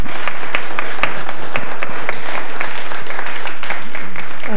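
An audience claps steadily after a talk and question session, a dense patter of many hands sustained throughout at moderate loudness, with faint murmuring underneath.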